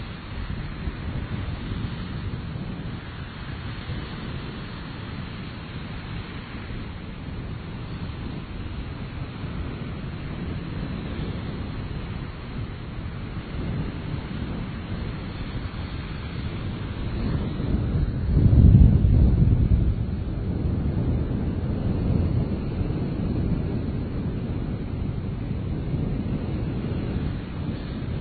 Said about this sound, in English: Now, you know, this is a rather small lake. It's not huge. I mean, it's big, but it's not a huge lake. But yet, there are still fairly choppy waves there. As you can hear, they're pretty loud. And it's very windy.